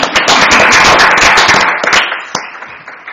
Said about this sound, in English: Thank you. Thank you. I'm just going to give you a round of applause.